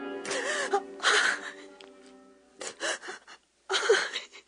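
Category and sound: human body sound, woman crying and whimpering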